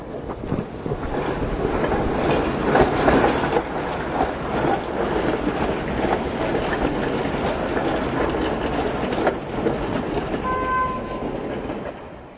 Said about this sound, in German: Wenn dann auch noch eine Straßenbahn über die Weichen einer Kreuzung rattert und die Ampel lautstark das Grünsignal verkündet, ist ein Gespräch in normaler Lautstärke so gut wie unmöglich.